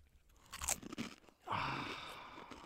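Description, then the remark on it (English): A fortune cookie cracks open with a few sharp, brittle crunches and snaps, followed by a longer rustling crackle of crumbling pieces and wrapper, with no talking. “You want a fortune cookie? I want you to read what it says out loud.”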